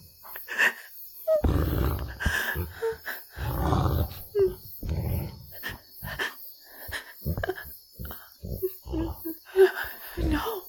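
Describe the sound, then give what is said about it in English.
A wolf growls low and sniffs in short, irregular bursts, with rough snuffling breaths between deeper rumbling snarls over about ten seconds. “Thank you for not biting me, for not tearing out my throat. Thank you, Wolf.”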